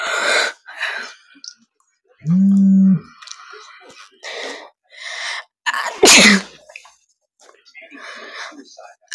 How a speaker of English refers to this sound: Can I stop sneezing? Jeez.